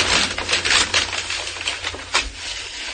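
Crisp, crinkly rustling of a paper bag from the 101 Diner in Los Angeles, holding cake in a jar, being opened. A run of irregular crackles and crunches, with one sharper rip-like burst near the end, no voices.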